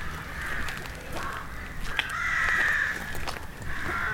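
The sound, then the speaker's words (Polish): Crows cawing in a park in Kock, many harsh calls overlapping in a steady, restless chorus, fairly loud, with no talking. “Taki trochę nastrój grozy robią tym krakaniem swoim.”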